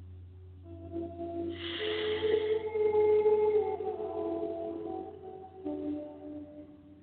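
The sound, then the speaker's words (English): A gong is struck once, blooming into a shimmering, humming tone that slowly fades, with a softer second stroke near the end over a steady low drone. “With each gong, we rise higher and higher.”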